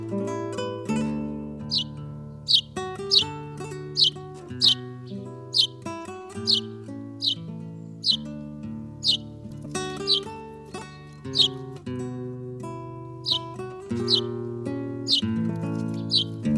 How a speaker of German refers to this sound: Das war der Haussperling.